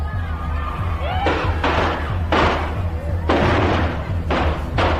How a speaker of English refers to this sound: What sounded like shots turned out to be Chinese firecrackers. Bobby flinched, then went right on campaigning.